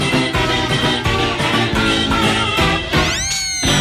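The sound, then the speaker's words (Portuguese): Two singers imitate wind instruments with their mouths in a cabaret-style song, making bright, buzzy horn-like phrases with a steady rhythm, then finishing on a loud note that slides upward. “que fazem os instrumentos de sopro ali com a boca e o trecho de sapateado estalando os dedos no ângulo certo próximo do microfone.”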